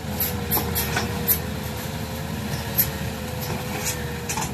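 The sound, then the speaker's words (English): Cranes scooping dirt and chainsaws cutting down trees in the jungle in Laos: a steady, loud diesel rumble with a wavering mechanical whine, broken by sharp metallic clanks and knocks every second or so. No one speaks. “Cranes scooping dirt in the jungle and chainsaws mowing down trees.”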